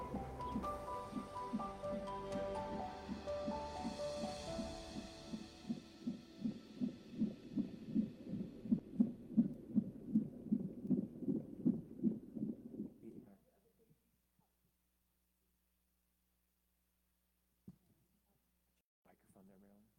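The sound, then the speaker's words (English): A fast, steady whooshing heartbeat of a baby in the mother's womb pulses through the muffled, watery rumble of a fetal monitor, then cuts off into near silence with a faint click near the end. “Just heard was the baby's heartbeat in the mother's womb.”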